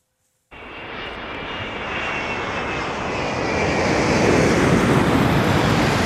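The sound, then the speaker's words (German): The engines of an Airbus A380 jet airliner, the largest passenger airliner ever built, roar in after a brief silence, a dense, steady rumble with a faint high whine that grows gradually louder over several seconds. No voices. “Egal, wo der A380 landete, Aufmerksamkeit war dem größten je gebauten Verkehrsflugzeug immer sicher.”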